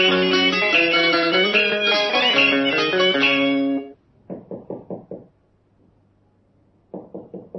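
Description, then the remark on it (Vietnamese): A musical passage ends abruptly, then a door is rapped firmly five times in quick succession; after a quiet pause, another burst of knocking starts just as the sound cuts off. “Cửa ông gài, đẩy vô đi.”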